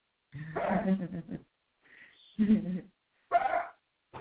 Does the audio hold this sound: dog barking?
yes